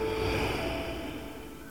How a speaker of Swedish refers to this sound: Andas in. Andas ut.